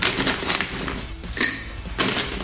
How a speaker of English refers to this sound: And then, now for the fun part, to ice and shake. So I'm going to fill my glass full of ice.